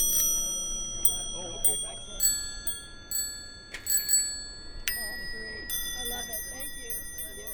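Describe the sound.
Vintage bicycle bells on old bikes ring out repeatedly at irregular intervals during the Lake Pepin three-speed tour, bright, each ding leaving a lingering metallic tone, over a low murmur of people talking in the background.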